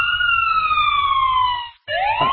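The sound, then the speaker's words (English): A loud police car siren wails, its tone sliding slowly downward before a brief cut-off, then sweeping back up again as the cycle restarts. “Can we hear that siren again?”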